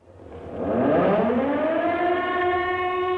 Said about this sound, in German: Plötzlich, gegen 21.40 Uhr, ertönten die Sirenen. Es war zwar nicht der erste Fliegeralarm für Dresden, aber wir spürten, heute war es anders.